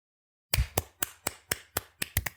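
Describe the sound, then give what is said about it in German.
Hands clap about eight times in a quick, steady rhythm after a brief silence, in respect for a marathon run, each clap sharp, with the last few coming slightly doubled. No one speaks. “Entschuldigung, wollen wir klatschen?”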